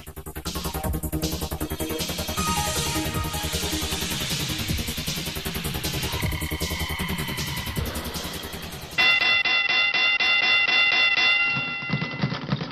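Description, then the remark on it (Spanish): A small bell rings rapidly and loudly for a couple of seconds, insistent, following a stretch of busy, dense music. “Con esa campanita, lo salvó la campana.”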